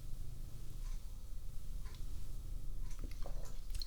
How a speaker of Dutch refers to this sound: En ondertussen is hier Selma, die hoorde je misschien net. Die vindt het dan de reuze interessant als ik hier bezig ben. Dus als je voetstapjes hoort, dan is dat Selma, de poes.